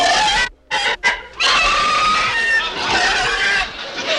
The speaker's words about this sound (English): Will you please quiet the pig? Madam, he's disturbing our guests. Well, he couldn't if he was in a room.